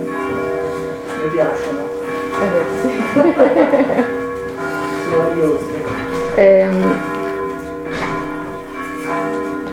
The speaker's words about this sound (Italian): Ascoltiamo un po' le nostre campane che vengono da fuori, che sono stupende.